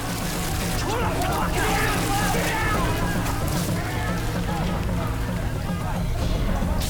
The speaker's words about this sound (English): Water floods into the safe deposit trays. It soaks Teddy's packet of cigarettes, currency and valuables as it streams in.